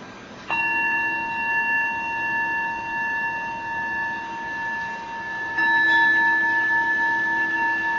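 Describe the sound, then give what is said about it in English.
A meditation bell is struck twice, about five seconds apart, each strike ringing out in a long, steady, shimmering tone of layered pitches that hums on without fading much. No one speaks. “And then when you hear the bell next, we'll open up for some sharing or discussion.”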